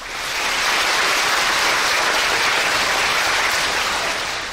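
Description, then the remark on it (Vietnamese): Loud, sustained applause from young people at a summer retreat fills the whole clip, a dense steady wash of clapping hands drowning out the surrounding traffic noise, with no voices standing out. “Cảm ơn các bạn đã cho Sư một cái tinh thần rất là thư thái và sảng khoái với những tiếng vỗ tay át hết những tiếng xe cộ hay tất cả những tiếng động ồn ào chung quanh.”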